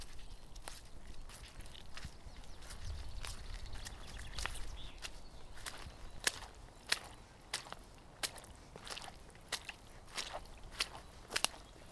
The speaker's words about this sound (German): Das schmatzt und quietscht schon unter meinen Füßen. Das ist ja richtig matschig hier. Oh, bloß gut, dass ich meine Wanderschuhe angezogen habe.